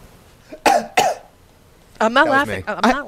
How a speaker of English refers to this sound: Cough twice if you're lying.